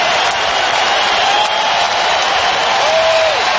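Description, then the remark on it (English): A big arena crowd at a Lakers versus Denver Nuggets game cheers in a loud, sustained roar after LeBron James finishes a left-handed layup, is fouled, and passes Michael Jordan for fourth on the all-time scoring list, in ESPN coverage. A brief whistle-like tone rises out of the noise near the end. “Hear that crowd right there, right? That's pretty amazing.”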